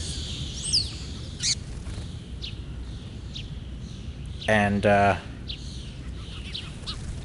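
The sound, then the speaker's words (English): Scattered small bird chirps ring out in Central Park, New York City, over a steady wash of outdoor city noise, with a brief spoken word breaking in midway. “And by the way, these birds do not fear humans at all. They will fly right up to you.”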